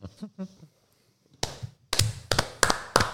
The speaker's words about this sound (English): Slow clap.